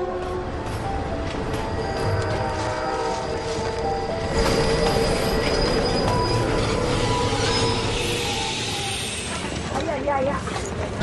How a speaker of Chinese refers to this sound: 从铁口站到新梁站垂直落差100米，火车盘山行驶要经过3个 Z 字形缓坡，路程大约9000米，而这两站之间的直线距离也就1000多米。